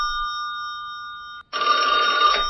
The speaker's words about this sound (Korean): 잠깐만요, 전화 좀 받고요.